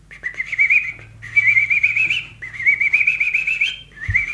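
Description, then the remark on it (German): A voice imitates little ducks or geese with four high, wavering, squeaky calls, each about a second long with brief pauses between, the last one cut short. “Dann gibt es noch die kleinen Enten, das klingt immer niedlich, oder Gänse.”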